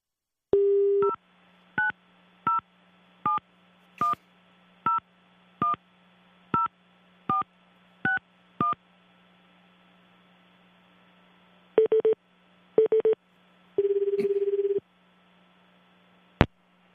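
A phone call placed from a radio program to a guest: a brief tone, then about a dozen quick, evenly spaced keypad beeps as a number is dialed, followed by a few ringing tones over a low steady line hum. No one speaks.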